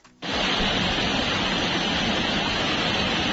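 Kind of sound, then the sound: nature, waterfall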